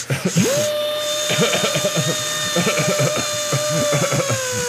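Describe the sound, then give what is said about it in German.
A drill whines at a steady high pitch, boring into a large Titanium 3 metal safe, running continuously from start to finish, loud, with muffled voices and a person coughing on purpose underneath. “Ich hab den Bohrer.”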